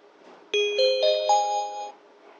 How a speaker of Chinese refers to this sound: 欢迎乘坐北京有轨电车西郊线，本次列车开往香山方向，下一站颐和园西门，请刚上车的乘客往中间走。